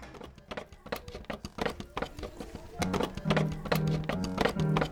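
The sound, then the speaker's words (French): A wobbly wooden stool rocks on a hard floor, its legs knocking down in a quick, uneven series of hollow clacks that grow denser and louder toward the end. “Simplement, il est quand même un poil bancal. Hein? Vous avez pu constater la bancalitude du tabouret.”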